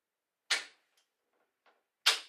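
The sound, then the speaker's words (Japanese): A door lock of a room being turned from inside: two sharp, crisp clacks about a second and a half apart, with faint small clicks of the mechanism between them. No voices. “ご説明が終わるまで、お部屋に内側から鍵をかけておきますね。”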